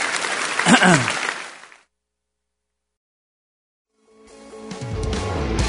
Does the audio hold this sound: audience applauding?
yes